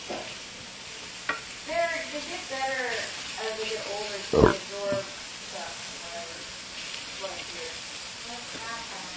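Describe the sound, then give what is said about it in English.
Food sizzles steadily in a frying pan, a continuous crackling hiss with a few sharp utensil clicks and scrapes, while people talk quietly. “But it really is nice and does a good job for the, for these.”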